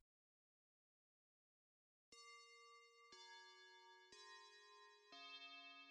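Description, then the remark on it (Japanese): After a couple of seconds of silence, a school chime rings out clearly: four bright, bell-like tones struck about a second apart, each ringing on and overlapping the next, with no voices. “あ、チャイムだ。”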